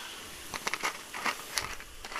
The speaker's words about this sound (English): And then soda water, top it up like that.